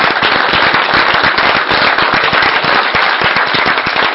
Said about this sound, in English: Let's give another round of applause to our presenters.